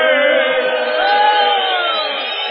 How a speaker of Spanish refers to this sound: Eso es, vamos a hacer ruido de disconformidad, sí, para que escuchen. Eso. Es esta una silbatina contra todo lo que nos molesta.